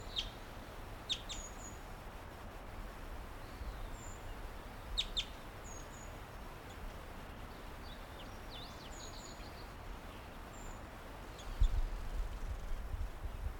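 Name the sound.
wild bird chittering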